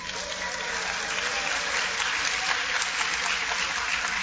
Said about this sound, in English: Let's give the cheerleaders a round of applause and support.